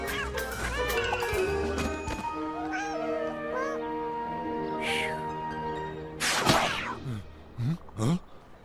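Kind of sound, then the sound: animal, kitten meowing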